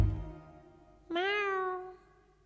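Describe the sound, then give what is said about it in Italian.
A single cat meow, clear, a drawn-out cry that bends slightly up and then slides down, lasting under a second after a brief quiet moment. “Un miagolio, … di …”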